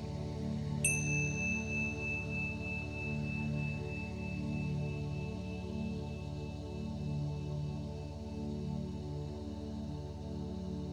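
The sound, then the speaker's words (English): A meditation chime, sounded in the breaks between scripture verses read during a meditation, is struck once and its clear, high tone rings on for many seconds, slowly fading over a steady, low humming drone. “In the breaks, you will hear a chime sounded twice.”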